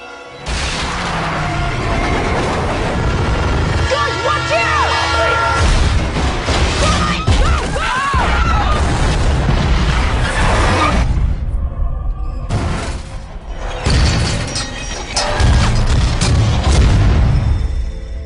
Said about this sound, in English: They happen to be in the wrong place at the wrong time as a pickup truck drives onto the tracks and causes the train to derail.